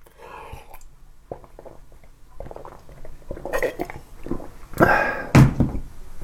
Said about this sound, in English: Let me have a drink of water.